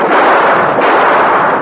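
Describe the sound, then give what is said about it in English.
A gunshot lost inside a crash of thunder: one loud, dense, sustained roar of noise rolling on for under two seconds, with no voices. “I'll shoot the lark off the next time it thunders, Kemosabe.”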